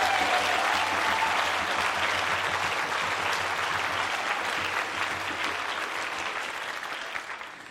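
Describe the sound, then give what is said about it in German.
Sustained applause from an audience after an auxiliary bishop's talk, a dense wash of many hands clapping at steady volume that gradually tapers off toward the end, with no talking over it. “Da gibt's extra Applaus.”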